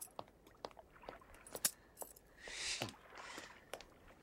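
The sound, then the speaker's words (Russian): A bunch of keys jingles and clinks as it is handed over, a scatter of light metallic taps and a brief rattling swell, fairly soft, with no voices. “На вот, ключи.”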